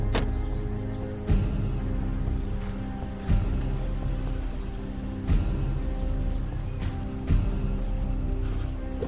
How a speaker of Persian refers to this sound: راننده نوید با ماشین وارد حیات خونه عماد میشه.